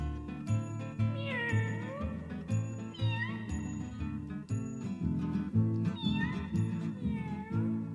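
A kitten meows three times, high and plaintive with rising and falling pitch, over steady, rhythmic music playing throughout.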